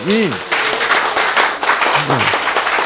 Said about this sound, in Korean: 그렇죠? 박수가 절로 나오지.